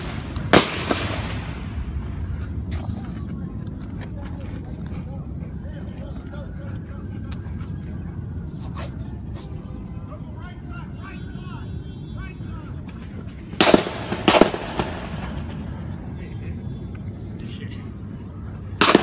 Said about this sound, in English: This is one gun being shot. This is not back and forth shooting. Like a duck hunting contest.